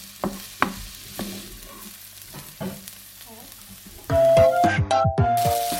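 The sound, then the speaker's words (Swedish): Red onion frying in a Teflon nonstick pan, with repeated scraping and stirring strokes; about four seconds in, a louder burst of crackling and clatter takes over. “stek rödlöken här nu i en teflonpanna.”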